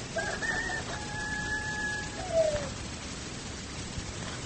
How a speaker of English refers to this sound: The rooster crowing heralds a new day.